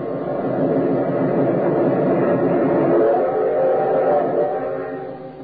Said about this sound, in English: We've got to beat the train or run smack into it. You'll never make it. It's almost to the crossing.